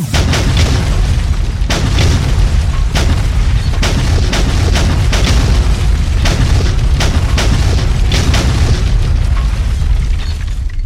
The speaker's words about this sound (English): Good hits. Bombs on target. Repeat. Romeo, 10 second volley. Round 2!